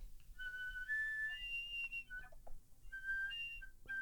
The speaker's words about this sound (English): I tend to go, so whistle tones really helps me to relax the embouchure and to find the center of the tone.